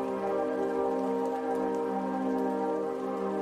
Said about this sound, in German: Die Geräusche des Regenwaldes umgeben dich, lebendig, nah, wie ein schützender Mantel, der sich um deine Schultern legt.